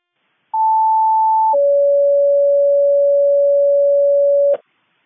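An Avalon Fire Department radio paging rescue tone: a loud, steady higher tone for about a second drops straight into a lower steady tone held for three seconds, then cuts off abruptly. No voices.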